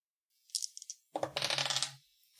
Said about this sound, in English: But go ahead and roll it. Let's see what the dice say.